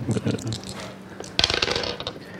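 A quick rattle of dice tumbling across a hard surface, a burst of sharp clicks that settles within a second, after a brief murmur of voice at the start.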